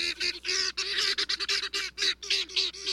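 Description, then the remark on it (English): Harsh, rapid calls of helmeted guinea fowl repeat in quick bursts, a loud grating chatter of several birds, with no talking. “But from Senegal to South Africa, where the birds are native, their raucous calls are a familiar sound.”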